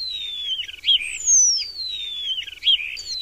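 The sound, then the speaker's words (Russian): A starling sings steadily, mixing long slurred whistles that slide downward with quick chattering and squeaky notes, repeating in a busy, varied pattern with no other sounds around it. “И правильно сделал, ведь скворцы возвращаются к нам рано, тоже в марте.”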